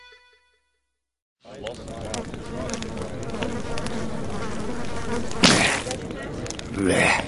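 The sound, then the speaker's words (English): A mosquito's buzzing whine starts after a brief silence and hovers steadily, swelling in short louder bursts toward the end. “When a mosquito speared Oki Moore right between the eyes, he deftly squashed it against his forehead.”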